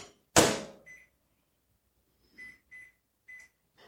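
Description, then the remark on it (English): A microwave door shuts with a solid thud, followed by a handful of short, high electronic keypad beeps spaced unevenly as the timer is set to about a minute on high to melt butter in a lidded glass container, with no talking. “I've learned to use a lidded glass container for that because otherwise it boils over and makes a mess all over my microwave turntable”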